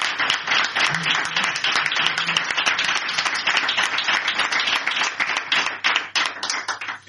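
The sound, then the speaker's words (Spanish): An audience applauds steadily for about seven seconds, a dense, loud wash of many hands clapping at once, with a faint murmur of voices underneath. “Y pues quiero también pedir, por favor, un aplauso para todos los que me estáis acompañando.”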